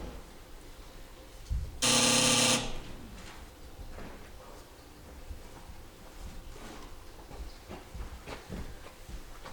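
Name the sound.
buzzer sound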